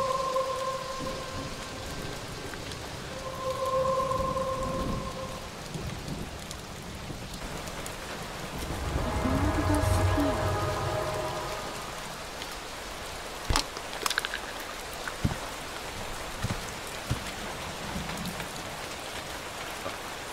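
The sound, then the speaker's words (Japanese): Heavy rain pours steadily throughout, with a deep rolling rumble of thunder swelling near the middle and a few sharp cracks afterward. No one speaks. “今日のように雷雨のひどい日ほど美しく輝く秘宝、ゴールドスフィア。”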